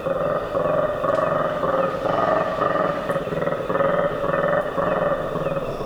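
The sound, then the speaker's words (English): A colobus monkey troop in the trees of the Kakamega Forest in Kenya gives contact calls in the pre-dawn hours as it regroups, loud, rolling, throaty roars that pulse steadily without a break, several voices overlapping, with no one talking. “The troops' vocalizations echo across the jungle canopy as they regroup and start their search for breakfast.”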